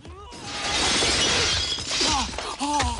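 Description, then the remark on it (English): A loud crash of a glass partition window shattering as a man is kicked through it bursts out and sustains as a dense, bright spray of breaking shards, with scattered tinkling pieces and a few voiced cries or grunts mixed in. “He pushes Jackie inside and kicks him through a partition window.”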